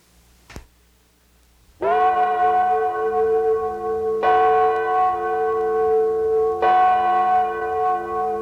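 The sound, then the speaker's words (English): The Liberty Bell rings out three times at slow, even intervals, each loud strike blooming into a rich, humming tone that lingers into the next, preceded by a single faint click. “200 years ago, the Liberty Bell told the beginning of our life as a nation.”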